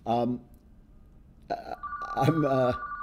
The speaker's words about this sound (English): I've talked about this before, but I'm getting a phone call on my hotel phone.